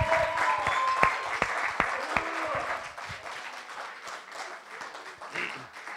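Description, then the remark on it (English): An audience applauds three people who have gone debt-free this week through the CAP Centre, a dense, steady wash of clapping, a few sharper claps standing out early on, before the applause thins slightly and carries on at a moderate level. “Okay, that deserves a big round of applause.”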